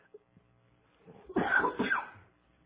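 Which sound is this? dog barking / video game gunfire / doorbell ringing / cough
cough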